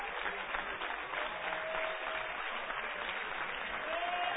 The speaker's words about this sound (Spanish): Dele un aplauso al Rey de Reyes y Señor de Señores.